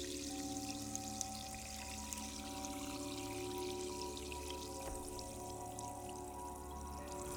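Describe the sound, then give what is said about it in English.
Seltzer water pours steadily into a glass over ice, a continuous bubbly hiss with faint crackling pops, fairly quiet, lasting several seconds with no one speaking. “Let's pour a glass of spicy water, aka seltzer water, over some ice.”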